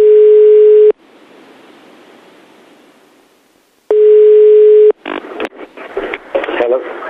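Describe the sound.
A telephone dial tone as a man calls himself on an outgoing call: two steady, buzzy one-second tones separated by a few seconds of soft hiss, then choppy, garbled voices break in.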